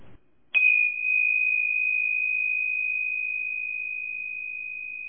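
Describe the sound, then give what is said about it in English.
A single chime is struck once near the start, then rings out as a clear, steady tone that sustains and slowly fades over several seconds, alone and without any voices. “The ringing of the chime was letting the intuitive energy flow in through the third eye, into your mind, into your body, and now into your reality.”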